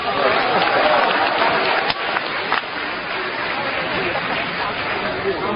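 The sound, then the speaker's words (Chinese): A crowd applauds steadily at a live crosstalk (xiangsheng) performance by Guo Degang and Yu Qian, a dense, even wash of clapping at constant loudness for several seconds, with a murmur of audience voices mixed in. “谢谢，谢谢大家给我一个人的掌声。”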